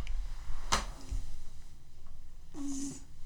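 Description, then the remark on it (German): A male cat that rarely purrs gives a single short, low grunting sound instead of purring, preceded by a brief sharp click or rustle. “Das ist auch die einzige Katze, die nicht schnurrt, sondern grunzt.”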